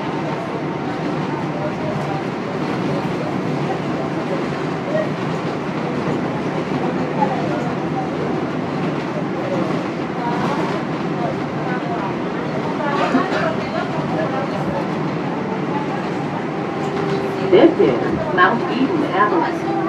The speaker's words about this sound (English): This is a Woodlawn bound 4 train. The next stop is 176th Street.